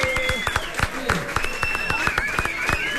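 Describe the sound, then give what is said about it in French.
A crowd cheers and applauds steadily, with dense clapping and several excited whistles and shouts rising above it throughout, welcoming a performer onto the stage at a rock event. “La foule est en délire pour accueillir”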